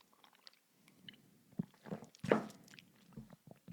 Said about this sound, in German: Kurz Schluck Wasser trinken.